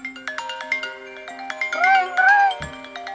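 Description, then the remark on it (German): A phone ringtone for a call plays: a run of quick, bright electronic tone pulses forming a melodic pattern, clear, with a brief voice-like sound mixed in toward the end. “Ja, ich tue nicht, ich so schnell anrufen.”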